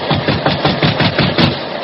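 A rapid series of loud, hollow knocks on a wooden farmhouse door at night in wet weather, about eight blows in steady rhythm over a low rumbling background, with no voices.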